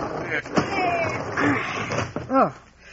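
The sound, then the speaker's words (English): A heavy wooden barn door is shoved open with dull thuds, scraping and short creaking groans, while voices strain and murmur underneath. “Come on, help me shove this door.”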